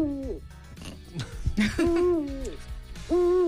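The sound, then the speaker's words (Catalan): Three drawn-out owl hoots, each a smooth tone that bends downward at its end, fairly loud, with brief scratchy noises in the gaps between calls. “Mira, avui us dic que els mussols són els grans protagonistes”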